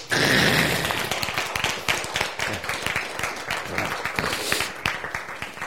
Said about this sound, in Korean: 박수!